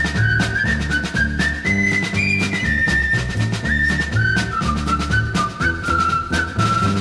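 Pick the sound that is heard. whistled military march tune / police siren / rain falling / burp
whistled military march tune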